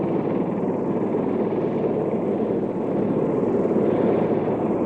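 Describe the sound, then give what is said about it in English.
A steady, loud rotor-and-engine drone fills the scene without letup. It comes from a backup recovery helicopter flying over a spacecraft command module during an astronaut recovery, with no voices or other sounds breaking through. “With one of the backup helicopters.”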